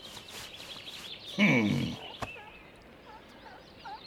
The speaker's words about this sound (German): Vielleicht in dem Busch da vorn. Da sitzt ein kleines Vögelchen. Aber das quietscht nicht, das singt. Richtig hübsch klingt das.